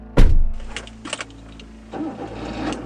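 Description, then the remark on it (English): A car door thuds shut, followed by some clicking and rattling, then an engine cranks and turns over into a low, steady idle as someone sets off by car for Santa Barbara. No one speaks. “The next day, I got in my car and headed off to Santa Barbara to find Dolores Cantwont.”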